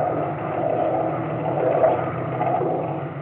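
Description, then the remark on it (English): A boat from an American salmon vessel drones steadily as it pulls away across the water toward a Japanese vessel, a continuous low rumble that holds at a fairly even, moderate loudness for a few seconds with no voices. “The boat from the American salmon vessel pulled away and headed for the Japanese vessel.”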